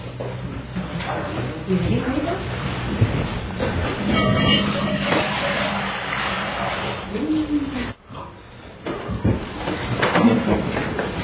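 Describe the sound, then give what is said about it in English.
A steady, rushing stream of water being poured during a worship service, before giving thanks for the gift of water, with a hissing splash and faint tones that rise in pitch as the vessel fills, continuing for about eleven seconds with a brief break near the end. “And if you listen, you'll hear the water singing.”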